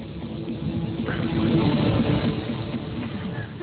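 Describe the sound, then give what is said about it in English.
A steady, continuous wash of static-like noise from a played recording, with a muffled, rumbling low end and no clear highs, holding an even loudness for several seconds with no voices. “I like that it sounds like static”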